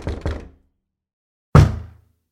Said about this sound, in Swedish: Knackningarna hade kommit från taket och det kunde bara betyda en sak.